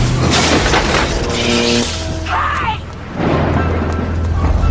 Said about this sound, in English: There was a storm. It was an accident. We had an accident. And we got stuck and we couldn't get out. We couldn't get out because of the storm.